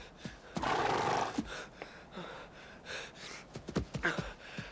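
A horse lets out a loud, breathy whinny and then a few short snorts and huffs. Nobody speaks.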